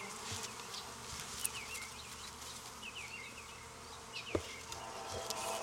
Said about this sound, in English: I've got a bee in my bonnet and she is crawling in my ear, and that is not a good scenario. You don't want that bee, I got her out.